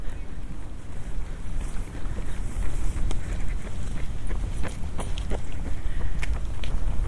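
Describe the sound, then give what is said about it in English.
A water bird with an orange beak, foraging by tipping its beak into a puddle, gives short chattering bursts of calls as it comes up from the water, at irregular intervals, set against a steady wash of splashing water and wind noise outdoors. “And when it comes up from the water, it makes this noise, I can't imitate it, like almost like its teeth are chattering with cold.”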